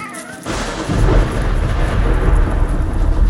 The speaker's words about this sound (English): At that very second, I looked upstream to see a wall of water barreling towards me.